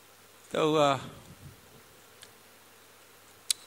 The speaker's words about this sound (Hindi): या मक्खिया भी आ गई, मरे तो नहीं है लेकिन मक्खी आ गई है।